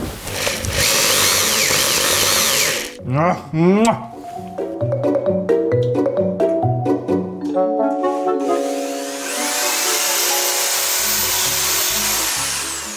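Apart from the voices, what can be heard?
power drill drilling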